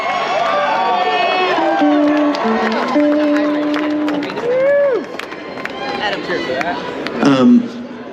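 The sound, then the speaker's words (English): A large concert crowd cheers loudly and continuously at a night concert, with scattered whoops, high shouts and rising yells over a dense roar of voices, a burst of louder cheering near the end. “This is a pretty nice crowd.”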